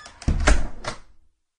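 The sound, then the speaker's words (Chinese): A bedroom door slams shut with a heavy, booming thud as a woman storms out of the bedroom, followed by a couple of quick rattling knocks as it settles, then fades to silence. No one speaks. “接下来，妈妈提高了嗓门，好像和他说了些什么，然后摔门走出了卧室。”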